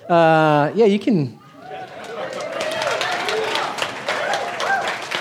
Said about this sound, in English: They don't even know what I'm going to say, and they're already clapping. They might be booing.